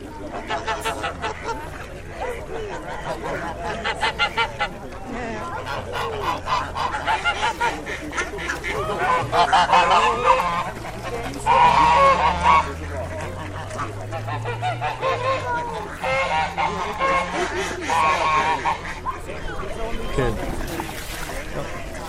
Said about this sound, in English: You hear those? That were ducks landing in the water, and I'm trying to get another picture of them, but it's really hard to get a good picture today.